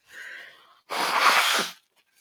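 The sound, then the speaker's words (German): Someone blows their nose into a tissue right into the microphone: a softer, faintly whistling puff first, then a loud, rough, wet blast lasting almost a second before it cuts off. No one speaks. “Komm, wir machen simultan Nase putzen.”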